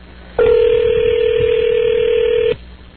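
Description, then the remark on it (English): A single steady telephone tone sounds for about two seconds as a call rings a Taco Bell in Greenville, South Carolina, a loud, even electronic hum that starts and stops abruptly, like a ring on the line, with no one speaking. “Now we're rooting just for them to answer the telephone.”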